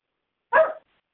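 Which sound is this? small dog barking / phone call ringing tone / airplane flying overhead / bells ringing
small dog barking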